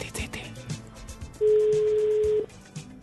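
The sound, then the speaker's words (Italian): A single steady ringback tone sounds for about a second on an outgoing phone call to a friend, loud and clear, with faint background chatter and noise before and after it. “Vediamo se risponde. Sì, vediamo, attenzione, squilla.”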